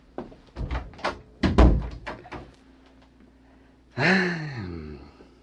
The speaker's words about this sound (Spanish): Cierra la puerta.